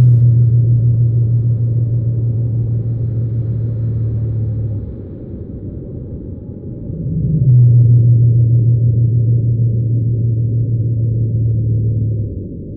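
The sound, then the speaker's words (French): Madagascar pygmy blue whale song recorded at Crozet, sped up five times: two long, steady low tonal notes, each held for about five seconds with a short pause between, over a constant deep rumbling background. “Et dans mes enregistrements de Crozet, c'est la deuxième espèce que j'ai enregistrée aussi, la baleine bleue pygmée de Madagascar.”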